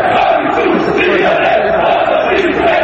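football fans chanting

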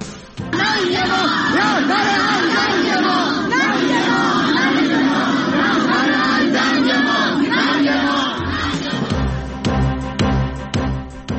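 protest crowd chanting

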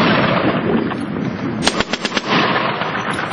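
gunfire

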